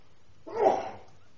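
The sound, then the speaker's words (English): A single sharp sneeze bursts out about halfway through a county board meeting in Milwaukee County, brief and fairly loud, with no talking around it. “Bless you.”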